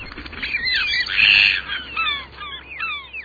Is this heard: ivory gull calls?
yes